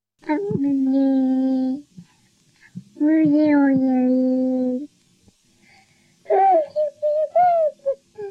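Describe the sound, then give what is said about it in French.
A ten-month-old French baby babbles alone: two long, drawn-out vowel sounds, then a quick run of short, higher-pitched syllables with the last one held a little longer. “bébé français de 10 mois”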